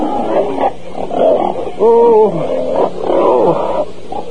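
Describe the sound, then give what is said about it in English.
Several pigs, thrown onto a road from a farm wagon that overturned on a sharp curve, squeal and grunt in overlapping bursts, loud, with one sharper rising squeal standing out midway through the noisy, agitated chorus. “The traces broke, the horses ran on, and the pigs were thrown out onto the road.”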